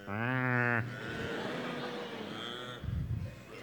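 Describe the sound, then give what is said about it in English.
A single loud, drawn-out moo from a herd of about 10,000 cattle out on the prairie at night rises slightly in pitch for under a second, then gives way to a soft, hissing background with a faint low rumble near the end. “and there was a whole herd of 10,000 cattle out there in the darkness, right out there under the prairie starlight, lowing and mooing.”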